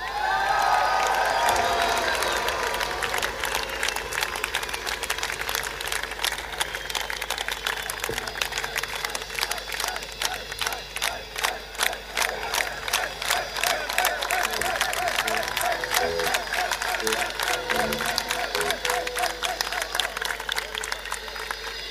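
An audience applauds the whole crew steadily for about twenty seconds, dense rapid clapping with some cheering and whistles mixed in, loud and sustained throughout.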